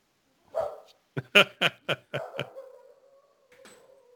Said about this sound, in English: there's somebody at the door. Can you hear? That is Casey the Wonder Dog.